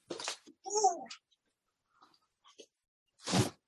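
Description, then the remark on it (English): A single short, whiny meow from Mendel cat, an Instagram star cat, framed by brief bursts of rustling noise at the start and end, with faint, quiet sounds in between. “Look at the Mendel cat.”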